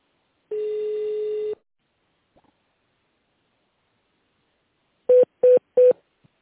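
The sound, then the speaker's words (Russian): Telephone keypad tones on a call to the company Korustekh (Корустех), as an extension number is dialed in tone mode: one long steady beep lasting about a second, a pause, then three short evenly spaced DTMF beeps in quick succession. No one speaks. “Если вы знаете внутренний номер абонента, наберите его в тоновом режиме, либо дождитесь ответа секретаря.”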